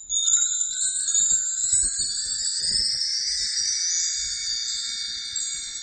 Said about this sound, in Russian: Этот инструмент называется чимес. Чимес.